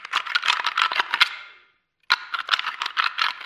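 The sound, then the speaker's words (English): Rapid clattering of deer rattling horns, a device used when hunting deer to draw bucks in, ground and knocked together in two bursts separated by a brief silence, a dense, woody rattling with sharp clicks throughout, no voices. “I brought rattling horns with me today. These are devices you use when you hunt deer.”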